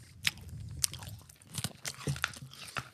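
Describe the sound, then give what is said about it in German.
Close-up crunching and chewing of hard candy, with sharp, irregular bites and crackles right at the microphone and no talking. “gerne näher ins Mikrofon kauen.”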